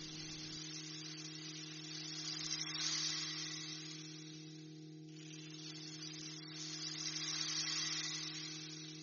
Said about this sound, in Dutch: Hey, en hoor je dat ook? Een waterval. Kijk maar achter je.